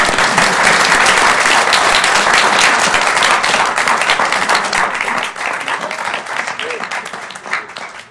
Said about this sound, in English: Aye, it's approved. You can clap now.